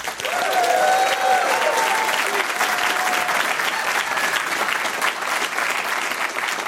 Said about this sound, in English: Do people always applaud when you start talking?